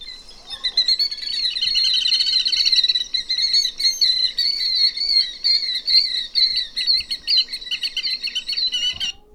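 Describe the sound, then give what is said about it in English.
Shrill killdeer calls ring out in a dense, rapid stream, high-pitched, repeating almost without pause for several seconds with no voices present. “The killdeer is also nicknamed the noisy plover because it makes so much noise.”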